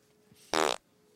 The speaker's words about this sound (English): I didn't put that on. You are laughing at farts